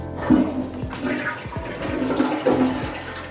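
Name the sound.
toilet flushing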